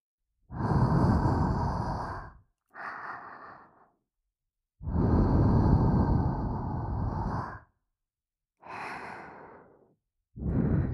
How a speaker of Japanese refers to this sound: じゃあこんなのはどう？生吐息、あったかくって気持ちいいでしょ？